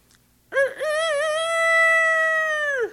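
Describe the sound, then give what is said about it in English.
A single drawn-out rooster crow imitated by a human voice as the first of a set of chicken-yard bird imitations, loud, with a short rising start that stretches into a long sustained call before dropping off. “A chicken yard has always been an interesting place.”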